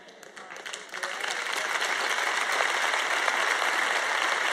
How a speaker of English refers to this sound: Your clapping's getting a little weaker this afternoon.